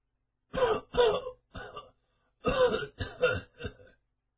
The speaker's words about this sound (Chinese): 屋内一阵咳嗽声传出来，婴儿忙走过去扶住想要出来的老爹。